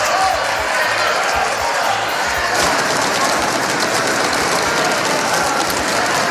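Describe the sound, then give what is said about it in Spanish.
A dense, loud din of many deputies shouting from their seats at once during a plenary session of the Spanish Congress, mixed with rapid rattling knocks of chairs and small desks being banged, with heavy rhythmic thumps in the first half. “Diputados gritando desde sus escaños, dando golpes en la silla, en la mesilla.”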